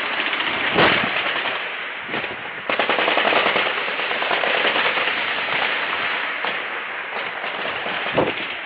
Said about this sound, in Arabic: على كل حال مشاهدي الكرام، أيضا لنشاهد وإياكم اقتحام مدينة إنخل في ريف درعا من قبل العصابات المجوسية النصيرية الصفوية وسط إطلاق نار كثيف.